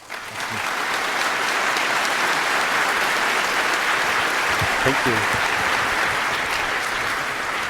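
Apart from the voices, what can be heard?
audience applause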